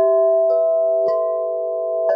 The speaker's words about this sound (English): as we're going about our business, as we're on our screens, in our email inboxes, the wind sweeps up the Wind River chime. We hear the gorgeous tones of these wind chimes, and it's just this like moment to snap back into the present.